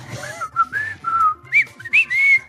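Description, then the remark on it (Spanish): A person whistles to communicate, a quick run of chirpy, sliding notes in short bursts, rising and falling in pitch, fairly loud with no talking. “Pero que se comunicaba chiflidos, pues ya acá de...”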